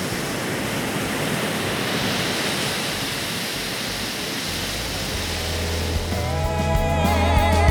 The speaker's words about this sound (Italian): Il mare aveva quel colore azzurrino della prima sera, ripeteva il suo solito ipnotico suono di risacca e nel cielo tra le nuvole già si intuivano strisce di rosa e di viola.